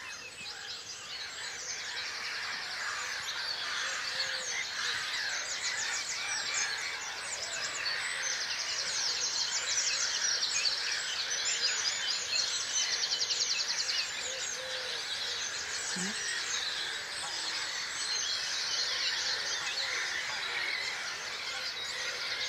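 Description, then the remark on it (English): A dense dawn chorus of many birds singing at once at a nature reserve, picked up by microphones set across the reserve, with overlapping high-pitched chirps, trills and warbles that carry on steadily and evenly throughout, with no one talking. “Well, we have all the mics up across the reserve here. Let's have a listen.”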